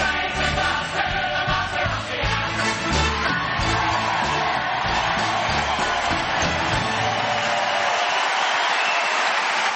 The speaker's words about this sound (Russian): Такие аплодисменты прям жалко уводить. Да-да-да. Ну, дальше там идет уже следующий номер, потому что это запись спектакля оригинальная, это Original Cast, лондонская постановка.